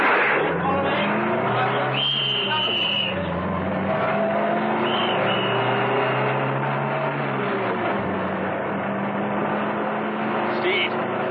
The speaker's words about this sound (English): ran towards the armored car. Steed started her up, and they roared off.